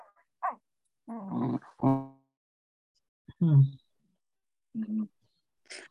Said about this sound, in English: I got dogs wrestling here. I'm sorry.